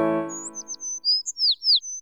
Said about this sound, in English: Little yellow bird singing happily.